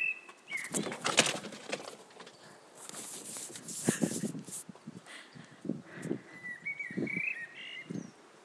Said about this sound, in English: That was a cat, one of mine, jumping over the fence.